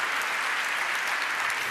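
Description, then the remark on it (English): A crowd claps steadily for a speaker at the end of a talk, a dense, even wash of many hands with no breaks or voices standing out, holding at a moderate level throughout. “A very warm applause.”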